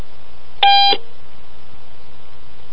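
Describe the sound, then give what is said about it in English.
A single short electronic phone tone, bright and buzzy with a harmonic edge, sounds once for about a third of a second over a quiet low hum, with no voices. “But, I mean, isn't that the coolest fucking ringtone? It's like, ring sound, not ringtone.”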